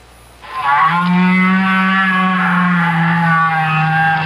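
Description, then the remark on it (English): A single long, low whale call drones steadily for several seconds, rich in harmonics and loud, sounding much like a cow's drawn-out moo, with no other sounds around it. It is made by a great big whale deep down in the ocean. “If you agreed with these guesses, you've been fooled, because each sound was made by a whale.”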